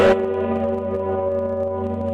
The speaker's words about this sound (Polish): A słyszałeś, kiedy zwierzy, jak dźwięczy i śpiewa on? Zygmunt, Zygmunt. Dzwon królewski.